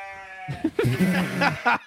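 A goat lets out one drawn-out, wavering bleat, loud and close, with a faint steady hum just before it begins.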